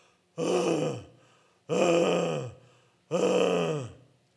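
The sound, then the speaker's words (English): A voice imitates a woman's agonal breathing: three loud, harsh, groaning gasps, each about a second long, evenly spaced with short silent pauses between them, unaccompanied. “And she began what I found later was called agonal breathing.”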